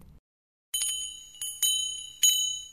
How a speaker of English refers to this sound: Suddenly, the little bells on the shop's door tinkled. She could recognize the voice of a client coming in.